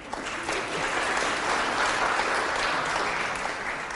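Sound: audience applause and clapping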